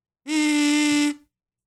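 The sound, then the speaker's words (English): A single sustained buzzing note from a kazoo being hummed into, lasting about a second at a steady low-mid pitch, loud and nasal with a rich, raspy tone, then cutting off. “It's not blowing, it's humming, okay? Better results if you hum.”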